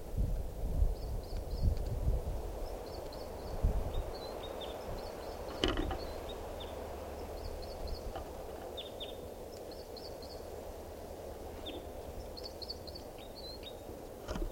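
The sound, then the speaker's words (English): A female bird's short, repeated calls alternate with a male's high, rhythmic song phrases of quick clustered notes, recurring every second or two over a steady low rumble of wind. “Perched near 387, that's her calling, and him singing.”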